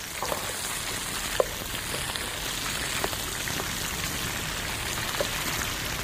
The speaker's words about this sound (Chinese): 其实好的食材也不用太多的花俏的那个加注它，随便煎一煎就很好吃了。